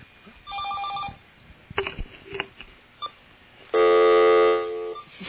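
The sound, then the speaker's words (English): A telephone rings twice with an incoming call, bright electronic trilling tones separated by clattering handling noises and a few thumps, the second ring louder and steadier than the first; the call is missed. “someone's calling.”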